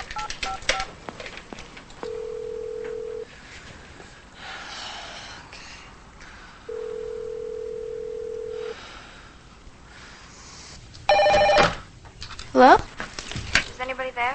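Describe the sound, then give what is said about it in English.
Phone tones: two long, steady ringing tones a few seconds apart, then a quick burst of dialing beeps near the end as someone dials a telephone in a motel room, with breathing and a gasp or snort. “She goes to the phone again and dials.”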